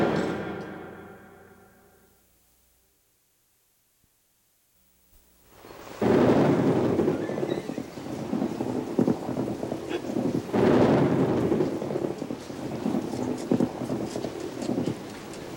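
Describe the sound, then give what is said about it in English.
After a fading musical tone and a few seconds of silence, a loud downpour of heavy rain begins, with deep rolling thunder swelling and rumbling beneath the steady hiss. “Boy, I love the rain.”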